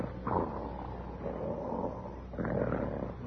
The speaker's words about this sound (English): Hey, listen to that. I didn't know there was a sawmill on the premises. What? That snoring. There's only one man I ever heard snore like that. It can't be him.